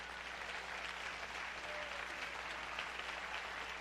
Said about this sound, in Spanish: Así que démele el aplauso a Dios.